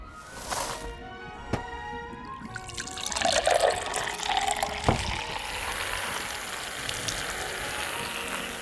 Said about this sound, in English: To simulate the foam of rabies, we're going to use baking soda and vinegar. Once your guests arrive, grab your funnel and pour the baking soda and vinegar into the mouth.